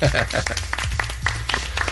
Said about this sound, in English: It's the emptiest applause.